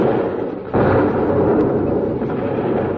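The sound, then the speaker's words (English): Heavy naval guns roar in a great sea battle with a fleet in peril: a dull rumble jumps abruptly into a loud, sustained thundering wall of booming noise that rolls on steadily without any voices. “There is the scene of a great sea battle. It waxes furious. The guns roar.”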